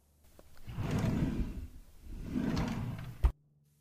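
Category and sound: household object, kitchen drawer being opened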